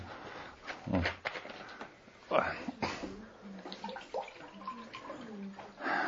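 Water is poured in a few splashy, uneven bursts, followed by quieter sounds of someone drinking, with faint voice-like murmurs in the background.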